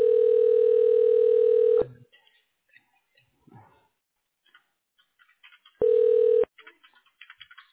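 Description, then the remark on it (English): A long, steady telephone tone sounds for almost two seconds, followed by soft clicks and faint beeps, then a shorter ringing tone burst before quiet clicking continues, as a call at Western Diagnostics is transferred to a radiology manager. “Okay, let me get you on the phone with them.”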